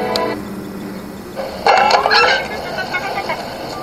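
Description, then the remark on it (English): An electronic device lets out a burst of warbling, chirpy beeps that rise and fall in pitch like a little robot, louder for a second or so before trailing off into softer tones. “It sounds like R2-D2, doesn't it?”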